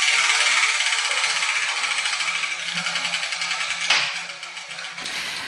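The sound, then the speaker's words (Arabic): A dense, continuous clatter of many small balls, each bearing an Arabic letter, tumbling inside a spinning letter wheel, steady and fairly loud, with a sharper knock near the end as the rattling thins out. “سأبدأ بتحريك الدولاب.”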